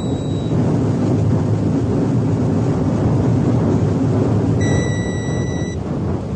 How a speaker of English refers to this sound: Second braking burn, 3 seconds from now. Two, one.